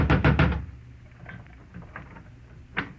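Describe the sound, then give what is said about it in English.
Three loud knocks on the wooden front door of a house land in quick succession, then fade into quiet with a few faint shuffles and a soft thump near the end. “There was one answer to that, so I went out in the street and up the steps of the house next door and knocked, good and loud.”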